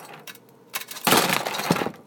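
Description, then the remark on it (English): Crunchy fries are dumped from a pan onto a plate in a dense, crisp rattle. A few sharp clicks lead into a loud, continuous scraping clatter of pieces hitting the plate, with no voices. “So I'm going to dump this onto here, onto this plate, hopefully. The fries sound like they're crunchy.”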